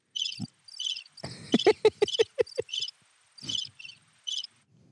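Crickets chirp in short, shrill, evenly spaced bursts, with a quick run of low thumping pulses breaking in midway before the steady chirping resumes alone.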